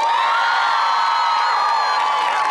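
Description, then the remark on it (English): A loud, sustained roar of audience cheering and applause, with high-pitched shrieks and whoops layered over steady clapping, holding at full intensity for a couple of seconds. “I didn't factor into our time the amount of applause that each of these are going to get.”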